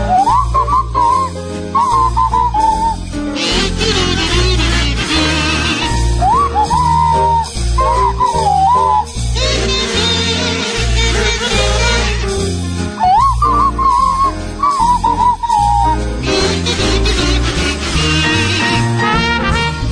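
A jaunty tune played on a sliding, swooping swanee whistle, joined in bursts by buzzy kazoos over a steady band accompaniment, loud and continuous with no talking.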